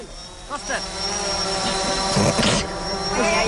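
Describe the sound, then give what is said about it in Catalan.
A steady, high-pitched mechanical buzz of a drone hovering overhead, holding a constant whine throughout, with faint voices briefly audible beneath it. “El sentiu, el dron, o no el sentiu?”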